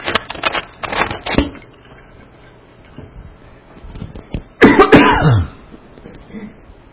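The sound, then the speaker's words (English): A loud run of rapid coughs, then a brief pause before one more strained, throaty cough burst that trails off into clearing of the throat, from a speaker who has taken a big gulp of air. “I've got a big gulp of air or something and I'm trying to cough.”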